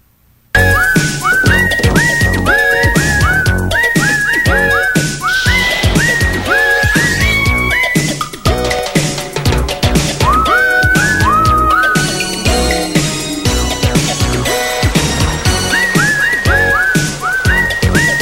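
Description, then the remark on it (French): A bright, sliding whistled melody carries a tune over a loud, busy instrumental backing with steady percussion and bass, running continuously with no talking. “Mais non, fuck off, esti, m'a sifflé tout le long.”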